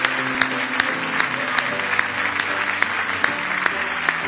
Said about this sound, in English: Somebody say praise the Lord. Let's give Him a real good hand clap of praise tonight. If you love Him with all your heart.